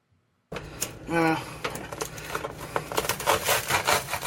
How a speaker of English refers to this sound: The knife isn't even as long. It's not even as wide as the bread is across.